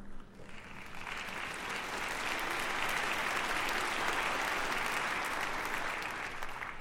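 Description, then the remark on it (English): Steady applause from an audience during a sermon, a dense, even wash of many hands clapping that swells quickly and holds at a moderate level for several seconds without any voices. “Someday I'll preach an entire message on that for you unbelievers who didn't clap very loud.”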